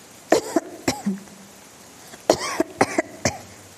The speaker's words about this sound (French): Nous, les nuages, Maïngou, si tu voyais nos poumons, on dirait qu'on fume. On passe notre temps à tousser.